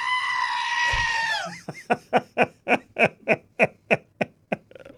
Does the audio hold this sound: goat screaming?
yes